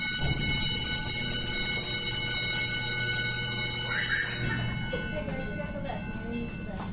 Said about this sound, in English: Those are the bells at either end that tell the traffic not to cross. This should stop in a second.